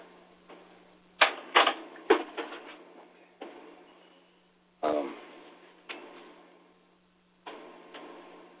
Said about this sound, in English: Excuse me, I have to just close the door here.